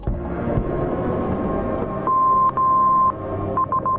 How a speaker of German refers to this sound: So würde es tönen, wenn ein Kind oder eine Jugendliche verschwindet und eine Entführung wahrscheinlich ist. Seit einem Jahr könnte flächendeckend Entführungsalarm ausgelöst werden.